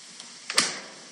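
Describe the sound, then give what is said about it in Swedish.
A refrigerator door closing: a faint click, then a solid, dull thud with a short fading rattle afterward. No one speaks. “Men jag tyckte ändå det lät så mycket som ett kylskåp.”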